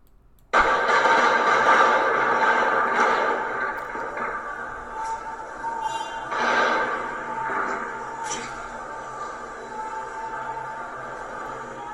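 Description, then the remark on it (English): Heavy gunfire in Pakistan, reportedly fired on citizens, erupts suddenly and continues as a dense, loud, rumbling roar for about eleven seconds, with a few sharper bursts standing out from the sustained clatter. No voices are heard. “You can hear the massive gunfire, and the reports are that they're actually firing on citizens.”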